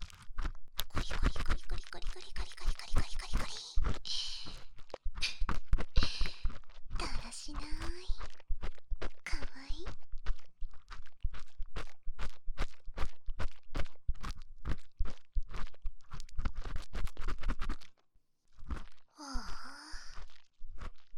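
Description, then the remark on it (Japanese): Dense, rhythmic scratching strokes repeat throughout, sometimes slow and spaced, sometimes in quick bursts, with soft sighing breaths and a few faint vocal sounds mixed in. “たまにはリズムを変えてゆっくり。ポリポリポリと思ったら素早くやってみたり。”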